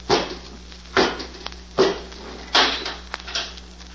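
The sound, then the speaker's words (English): A door is pushed shut with a series of heavy clunks, four solid knocks spaced under a second apart, each with a short ringing tail, with no talking. “Come out and close the door, Robot 2.”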